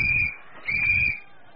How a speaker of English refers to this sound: He blew his whistle again.